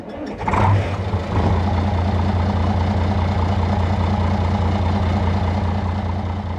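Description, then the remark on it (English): A fishing boat's diesel engine cranks and catches, then settles into a loud, steady, low idling rumble, running continuously with no voices, at Haynes Harbor on a Sunday morning as boats of the local fleet get ready to leave for a fishing opener. “It's Sunday morning at the Haynes Harbor, and a few boats from the local fleet are getting ready to take off for another opener.”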